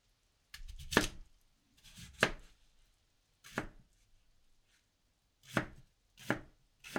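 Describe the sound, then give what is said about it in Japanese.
A knife chopping through daikon radish on a cutting board for miso soup, with five or six sharp thuds spaced irregularly, some with a slight crunch before the blade hits the board. “大根を切ってお鍋にお水を入れて火にかけて大根を中に投入っと。”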